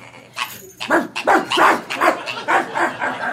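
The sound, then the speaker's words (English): A dog barks again and again in quick, steady succession, fairly loud, with a few sharper, higher yips mixed in among the barks. “Control your dog, please.”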